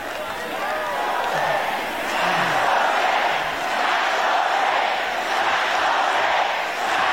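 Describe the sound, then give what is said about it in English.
A large, fired-up crowd cheers and roars continuously, a dense wall of shouting voices that swells and dips slightly in loudness without pause for the full stretch. “This crowd is fired up.”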